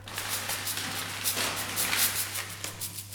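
Soft rustling and crackling with frequent small dry pops over a low steady hum, fairly quiet, continuing throughout with no one speaking.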